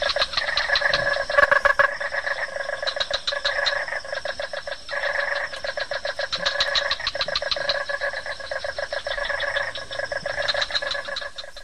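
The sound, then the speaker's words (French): A dense chorus of frogs croaking continuously, with rapid pulsing calls stacked in bright bands, steady and fairly loud throughout, no voices. The frog sounds are played as background ambience during a snack. “C'est des grenouilles.”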